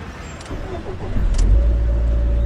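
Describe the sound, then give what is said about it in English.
A car engine is started with a key found in the glove box: it cranks for about a second, then catches and settles into a loud, steady low rumble at idle, with no voices. “They left a key in the glove box. Check if it starts the car.”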